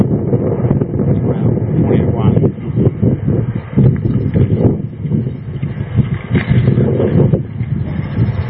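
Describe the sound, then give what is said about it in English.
Steady wind buffets the microphone outdoors at a library on a sunny day, a loud, low rumbling roar with gusty surges, and a voice speaks faintly underneath. “Windy and sunny day here.”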